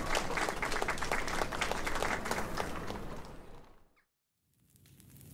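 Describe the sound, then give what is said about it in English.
A group of villagers applauds with dense, steady clapping that fades out after about four seconds, leaving a short silence before a low hum rises again. “They all clap appreciatively.”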